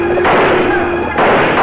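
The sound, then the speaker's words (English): Dense, continuous gunfire as an outlaw crew ambushes cowboys driving a trail herd, overlapping shots crackling in a loud, sustained barrage, the volley briefly thinning in the middle before surging again. “Before Bob Kincaid can rally his men, Slagle and his outlaw crew sweep down with guns blazing, pouring a hail of lead at the surprised cowboys.”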